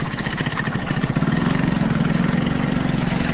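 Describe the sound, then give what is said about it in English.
Several small motorcycle taxi engines idle at a motorcycle taxi stand nearby, a steady rattling putter that grows slightly louder and more regular partway through. No voices. “But at a stand for motorcycle taxis nearby, the drivers all say they are ruling party supporters and they are not complaining.”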